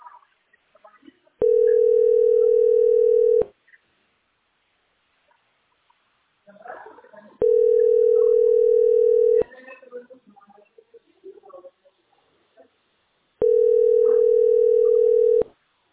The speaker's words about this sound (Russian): Вообще никто не берет. Идут гудки бесконечно.